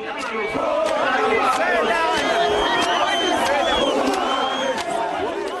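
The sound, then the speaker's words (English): A large crowd of men in a park shouts and chants over one another, jeering Buthelezi and screaming that foreigners are stealing their jobs, in a dense, continuous roar of overlapping voices, loud and agitated for the whole stretch with no clear pauses. “The men scream that foreigners are stealing their jobs.”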